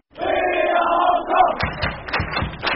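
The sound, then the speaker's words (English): A huge stadium crowd of thousands of red-shirted fans chants 'We are Hong Kong' loudly in unison at the city stadium on Hong Kong Island, where Hong Kong's soccer team is playing Lebanon, followed by rhythmic thumping beats and shouts as the chant pulses on. “We are Hong Kong is the cheer tonight among thousands of red-shirted fans at the city stadium tucked into the lush mountains and jagged skyscrapers of Hong Kong Island.”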